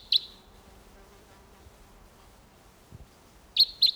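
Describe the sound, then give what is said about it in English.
A wild bird across a gully calls with short, sharp, high-pitched notes: one at the start, then a quick pair near the end, separated by a quiet stretch with a soft low thump. “I have two coming in here. Different bird.”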